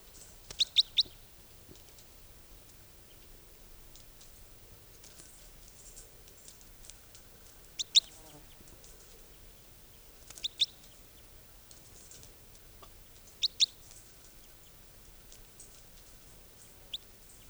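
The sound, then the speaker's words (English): A type 4 bird, in recording 464, gives short, high, sharp chirps in small clusters of two or three, spaced every few seconds over a quiet, faintly hissing background. No one speaks. “Okay, this is 464, the type 4 bird.”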